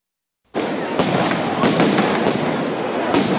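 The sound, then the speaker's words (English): Flashbang grenades used by police to push back crowds in Portland go off in a string of sharp, cracking bangs at uneven intervals, layered over a loud, continuous roar of crowd noise that starts abruptly and never lets up. “Police use flashbang grenades to push back crowds in Portland.”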